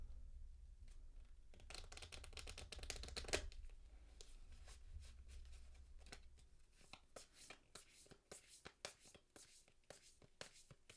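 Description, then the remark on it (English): Quiet shuffling of a card deck: a dense burst of rapid riffling flutters early on, then slower, scattered slides and taps of cards being mixed by hand, with no one speaking. “So we're going to shuffle.”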